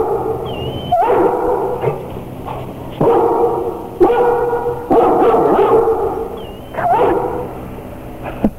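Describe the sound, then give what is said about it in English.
Two Dobermans, a male and a female, let out a run of sharp barks about a second apart, with high, thin whimpers slipping in between, over a steady background hum. “Did I hear a bark?”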